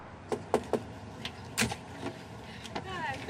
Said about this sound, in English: knocks on a room's door.